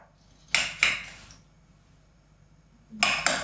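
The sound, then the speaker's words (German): A pan is handled on the stove as butter is put into it: two quick metallic knocks, a pause of a couple of seconds, then two more clanks, with no one talking. “Nee, Butter bitte. In die Pfanne.”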